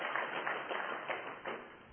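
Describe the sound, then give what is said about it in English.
An audience applauds to vote in favour of a military response, a steady, dense wash of clapping that holds for about two seconds and eases slightly toward the end. No one speaks over it. “By applause. Military response for that.”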